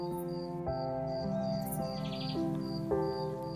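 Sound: grasshoppers chirping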